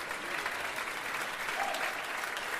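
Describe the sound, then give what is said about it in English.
Steady audience applause for a band member fills the whole moment, a dense wash of many hands clapping at a fairly loud, even level with no voices standing out. “Round of applause for …, please.”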